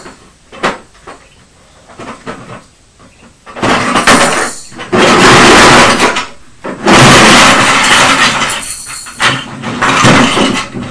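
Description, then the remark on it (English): Toy building bricks tipped out of a toy truck tumble onto a floor in loud, rattling clatters, several bursts of plastic pieces knocking together over several seconds, with a few lighter clicks before the main spill. “The truck's empty now and all the building bricks are on the floor.”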